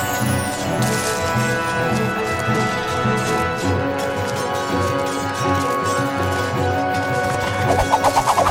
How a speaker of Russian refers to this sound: О, стрелы так и летают во все стороны. Как стреляют всадники, я вижу.